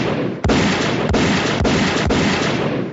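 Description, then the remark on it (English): Four sharp gunshots crack out at a steady pace, about half a second apart, each loud and punchy over a constant roaring wash of background noise. No one speaks. “By now you ought to be dead. That's 2 gunshots, okay?”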